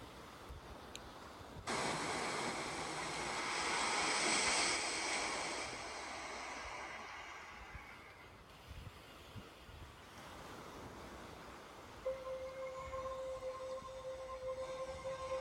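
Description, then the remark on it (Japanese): Ocean waves for a short mindfulness sea meditation wash in with a broad, hissing surge that swells and slowly recedes, then keep rolling softly as a steady, humming tone joins near the end. No one speaks. “海の瞑想に、したいと思います。”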